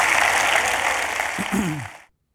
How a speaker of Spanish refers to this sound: Si Dios te habló, da un aplauso al Señor. Amén.